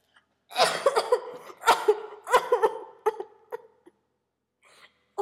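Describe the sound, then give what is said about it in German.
A fit of loud, harsh coughing at night, several rough bursts in an uneven rhythm with brief gasping breaths between them, then fading out. “In der anschließenden Nacht wurde ich von einem lautstarken Husten geweckt.”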